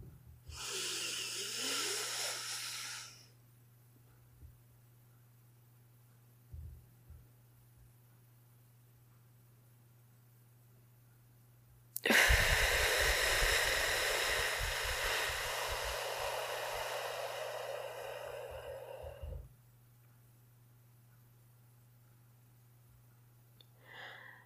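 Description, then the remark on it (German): A slow, airy inhale of about four seconds during a short guided breathing exercise, then a silent hold of about seven seconds, followed by a loud, drawn-out exhale of about eight seconds, with a faint steady hum underneath. “Und zwar atmen wir jetzt 4 Sekunden ein, dann halten wir unseren Atem für 7 Sekunden, atmen 8 Sekunden aus und halten wieder für 4 Sekunden.”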